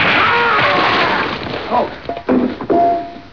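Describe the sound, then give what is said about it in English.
A loud, broad splash of water being thrown, followed by sloshing and a few dull thunks, with brief vocal sounds mixed in near the end. “Where'll I throw this water?”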